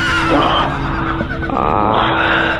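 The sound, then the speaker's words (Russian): A horse whinnies loudly in a stable at a military unit, a rough, sustained neigh lasting a couple of seconds, with no voices over it. “А там, между прочим, 2 мула, 2 огромных коня, специально выведенная порода.”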